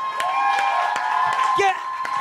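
An audience cheers and whoops over a steady crowd din, with scattered sharp claps popping through at uneven intervals for a couple of seconds, applauding a singer after a karaoke duel at a karaoke night.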